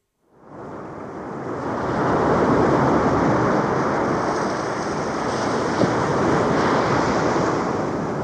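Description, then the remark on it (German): Steady, broad roar of ocean surf washing continuously onto a sandy beach, fading in at the start and then holding loud with gentle swells, with no voices. “Die Wellen rollen auf und ab.”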